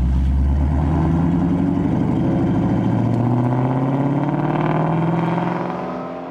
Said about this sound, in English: What you get is a higher, seamless, silky whine, almost like a turbine. The V8s in Italian supercars are often flat planes. Race cars have flat planes. The new Ford Mustang GT350 has a flat plane. Just listen.